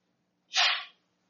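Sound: a person sneezing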